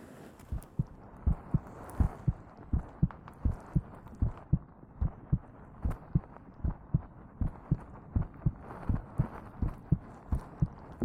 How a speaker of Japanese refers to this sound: 私の心臓の音、トクトクって聞こえてるでしょ。赤ちゃんはママの心臓の音聞くとすっごく安心するんだって。